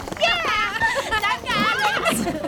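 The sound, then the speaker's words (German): The horses Sabrina and Amadeus whinnying loudly after a show performance, two long quavering neighs in quick succession with a brief higher squeal at the end. “Seht nur, Sabrina und Amadeus gratulieren sich gegenseitig.”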